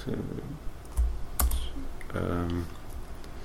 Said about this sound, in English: This is live typing, people. This is exciting, isn't it?